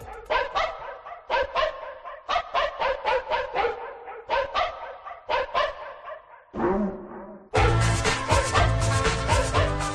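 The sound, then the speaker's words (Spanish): A dog barks loudly in rapid clusters of several barks with short pauses between, then a dense, sustained wash of sound abruptly takes over for the final seconds. “Un ladrido y comenzamos.”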